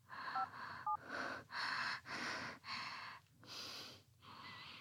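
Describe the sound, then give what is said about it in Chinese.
The owner's phone number being dialed: a few short keypad beeps in quick succession, mixed with loud, rhythmic breathy rustling bursts and no talking. “我懂了，一通电话的机会，如果主人接了电话，你就会放我走。”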